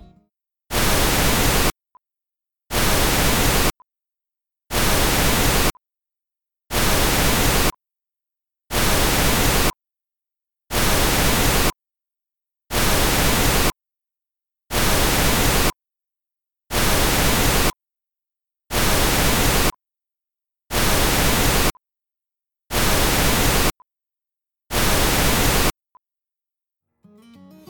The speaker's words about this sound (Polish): Próba 7 to brak odstępu pomiędzy sygnałami, zaś numery 8 do 13 to ponowne zwiększanie się odstępu. Podczas odsłuchu zwróć ponownie uwagę na to, czy wrażenie głośności słyszanego tonu 1 kHz ulega zmianie.